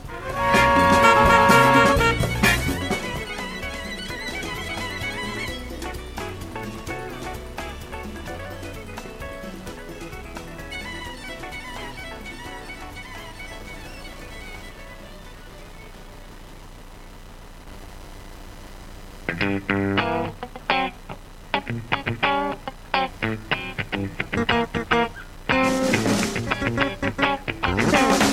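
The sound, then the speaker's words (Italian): A jazz-inflected song by a Cameroonian jazz bassist, from his new album, plays alone, opening with rich sustained instrumental tones that gradually thin out, then shifting into a brighter, rhythmic passage with crisp percussive hits near the end. “bassista camerunense di matrice jazz classica, e del quale ci andiamo ad ascoltare il pezzo dal nuovo disco.”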